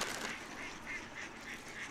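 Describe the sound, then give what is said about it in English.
A flock of geese honking continuously in an area managed for waterfowl, their calls overlapping in a steady, busy chorus with no one talking. “I'm already to kick these geese out of here so dude, we can get these ducks back up.”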